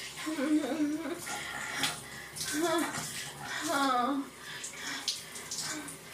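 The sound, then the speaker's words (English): Water from a shower pours in a steady, broad hiss throughout, while a woman's voice speaks and murmurs over it in breathy, rising phrases. “Right here now, in the shower.”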